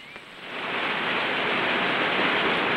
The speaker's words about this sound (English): Now the group reaches a steep wall of rock. Before them, a waterfall plunges down the escarpment into a shallow stream.